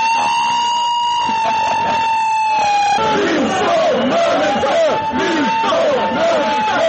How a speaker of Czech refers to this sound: Radnici Zastava oružja pred zgradom parlamenta vikali su lopovi, lopovi, mi smo namenske i podizali crvene kartone za vlast zbog usvajanja tog zakona.